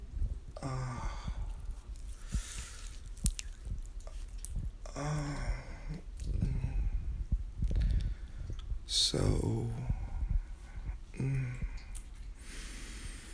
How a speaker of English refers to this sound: You can hear that, baby. The sound of me stroking my big, thick, hard cock. Soaked in baby oil, just so you can hear it.